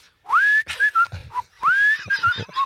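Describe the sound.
Someone whistles a bright, bouncy tune up close, two matching phrases of rising, sliding notes followed by short clipped ones, with no talking over it.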